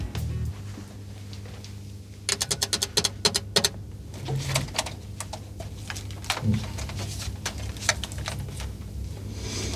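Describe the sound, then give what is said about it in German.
A quick series of sharp mechanical clicks from a band's loop station pedal in an irregular burst, followed by a few scattered taps, over a steady low hum. No one speaks. “Dieses Klicken war halt übrigens die Loopstation.”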